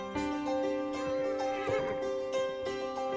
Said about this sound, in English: On a sun-drenched day, Tommy rides a horse across a grassy hillside. He wears a white cowboy hat.